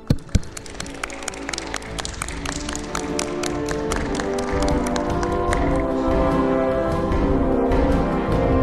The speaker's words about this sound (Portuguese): Eu acho o vosso projeto muito lindo. Por isso merecem uma salva de palmas.